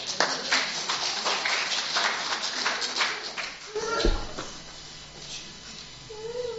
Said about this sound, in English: Give him a clap.